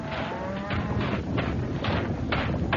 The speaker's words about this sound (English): The ground beneath me was shaking now, dancing in a crazy rhythm to the pawing of the raging hooves.